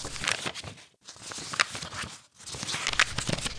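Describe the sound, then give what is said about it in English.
Book pages being turned: three crisp, papery rustles with short pauses between them, each a broad swishing crackle with sharper snaps, fairly loud and heard alone with no talking. “Well, on this week's show, as you can hear from the turning of the pages, is the recommendation for the book.”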